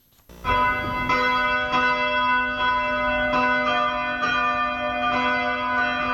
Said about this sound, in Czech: Zvona sa crkvenih hramova u ponoć simbolično su oglasila trenutak rođenja Sina Božijeg Isusa Hrista